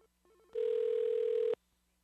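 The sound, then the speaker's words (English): A telephone rings back once, a steady electronic tone lasting about a second, preceded by a few faint, short beeps. No one speaks. “Oh, wait a minute. It's ringing back. It's ringing back. Hang on.”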